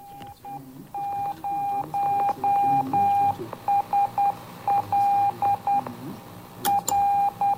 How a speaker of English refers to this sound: For much of the flight, only a Morse code beacon was heard on 2 metres.